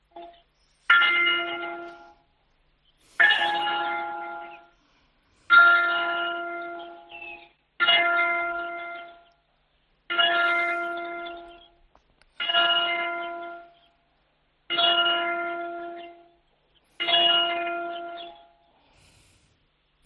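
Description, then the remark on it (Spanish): A church bell tolls nine o'clock in the morning at a church in Spain, heard over a telephone held beside the bell tower, in slow, evenly spaced strikes about two seconds apart, each ringing out clearly and fading before the next. Roughly eight strikes, with no voices. “escuchando, gracias a la colaboración de nuestros oyentes, las campanas que indicaban que eran las 9 de la mañana, las 8 en las Islas Canarias.”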